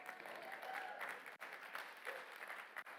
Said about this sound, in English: Yeah, I got one guy trying to clap, so help him out, somebody.